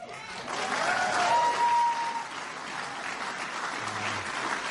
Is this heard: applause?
yes